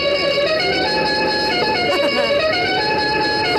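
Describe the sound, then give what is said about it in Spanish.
Car horns honk in a loud, steady blare, several tones overlapping and held for the whole stretch with no breaks, over a busy rumbling background. “¿Tú qué es eso? Pues tu claxon.”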